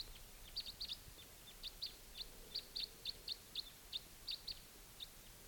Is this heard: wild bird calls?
yes